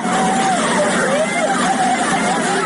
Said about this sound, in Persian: ای وای! ای وای! صدای وحشت ساکنان خانه‌ای در محله سیدی مشهد که از پنجره ماشین‌هایی را که سیل می‌برد تماشا می‌کنند.